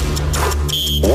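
A short, loud electronic game show buzzer sounds once, a steady high-pitched tone lasting a fraction of a second over a low background hum.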